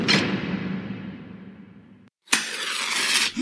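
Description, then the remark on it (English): A heavy vault door is pushed shut with a long rumbling sweep that fades out, then after a brief pause comes a rough, noisy scrape ending in a dull thump as it's secured. No voices. “Now, let me just secure the door in an attempt to prevent any interruptions during the story.”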